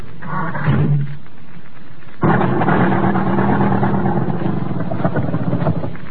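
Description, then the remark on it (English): A car starter cranks the engine of an American automobile with carburetor trouble in a loud, sustained grinding churn that runs steadily for several seconds, after a brief lower mechanical rumble and a short pause. “Try the starter.”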